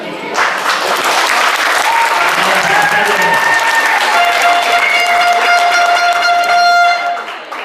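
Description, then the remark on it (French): A large audience, asked to show how they applaud, claps and cheers loudly in a hall for several seconds, a dense, steady roar of applause with sustained high tones sounding over it before it fades at the end. “Est-ce que je peux voir un peu comment est-ce que dans cette salle on fait applaudir?”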